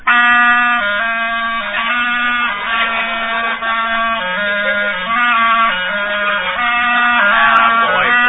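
A clarinet plays a reedy, sustained melody for several seconds, holding long notes that shift up and down in pitch at a steady, fairly loud level with no talking.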